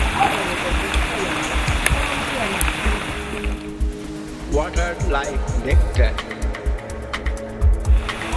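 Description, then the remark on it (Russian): Water pours down steadily in a dense, hissing rush, like heavy rain, at the opening of a temple, filling the first half; then a voice begins talking over the softer continuing splash. “Сказано, что здесь во время открытия храма льется дождь, потому что боги благословляют всех пришедших.”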